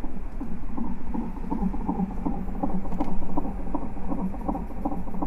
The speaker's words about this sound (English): They just played the lullaby for someone else who had a baby, and in our room, you can hear the heart monitor for our baby who is going to be born anytime now.